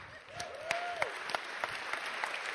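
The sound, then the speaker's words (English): An audience applauds again for a woman who has just received a Christmas giveaway, a steady wash of clapping with sharper individual claps popping out, and a short tonal whoop rising and falling near the start. No one speaks. “All right, clap for her again.”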